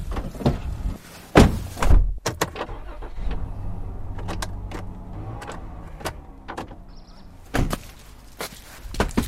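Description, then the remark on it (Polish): A door opens with a couple of sharp clunks, followed by scattered footsteps and knocks as someone walks in, over a faint low hum; a final pair of loud bumps near the end. “Już otwarte drzwi? Otwarte.”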